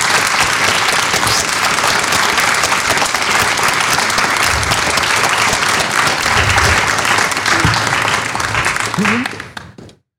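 A large audience claps steadily and loudly for about nine seconds, a dense, continuous wash of applause that quickly tapers off and stops at the end.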